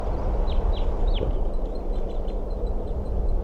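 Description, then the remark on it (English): A few short, high, down-slurred calls from birds back at their nest repeat quickly near the start, then fainter chirps continue over a steady low rumble of background noise. “It's recording, the birds are back.”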